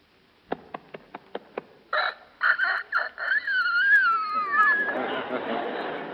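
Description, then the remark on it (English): A four-month-old rooster's attempt at crowing: a few choppy clucks, then a thin, wavering, cracking crow that breaks off into raspy noise, preceded by a quick series of sharp clicks. “All right, now 4 months.”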